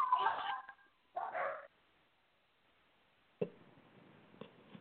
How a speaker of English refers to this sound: I was just thinking, hearing the dogs in the background laughing.